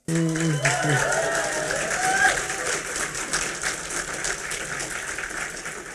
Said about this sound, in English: You shouldn't applaud people getting old.